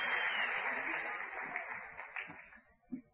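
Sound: audience applause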